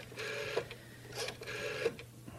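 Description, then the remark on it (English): A rotary telephone dial in a radio studio is turned and released twice, each spin ending in a whirring mechanical return with faint ticking and a sharp click as it stops. There is no talking. “It's nice to have the rotary dial.”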